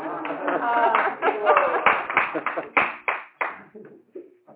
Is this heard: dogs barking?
no